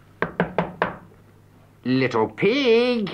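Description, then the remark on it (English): Four quick, evenly spaced, sharp knocks on the door of a house, then a short pause before a voice speaks. “And he knocked at the house again.”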